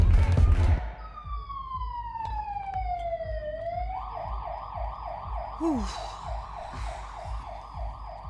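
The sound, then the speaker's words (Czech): An ambulance siren sweeps downward in a long wail, then switches to a fast, steady warble. It sounds loud, with a low traffic rumble underneath. “Pojď, zavoláme sanitku a budeme u ní.”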